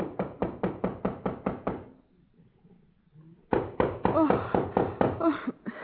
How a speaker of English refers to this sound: that knock on the door, and Nicodemus sleepily answering it